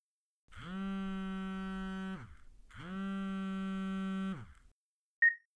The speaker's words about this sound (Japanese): うん、ちょっと電話来たみたいだからそのまま舐めてろ。